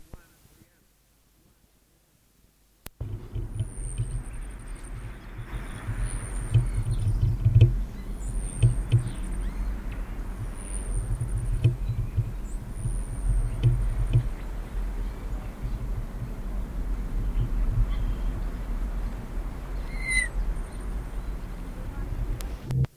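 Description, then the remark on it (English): A Selasphorus hummingbird display in a Nicotiana tomentosa patch in the South American area, with a female Selasphorus as its object: a series of short, very high-pitched buzzy trills repeating several times at a steady pace over a low, rumbling background noise. “A female Celasphorus was involved as an object.”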